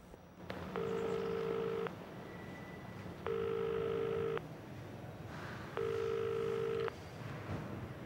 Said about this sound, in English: Taking out his phone, he makes a call, and when it starts to ring, Sahira searches her bag for her mobile. Seeing who it is, she lets it go to voicemail.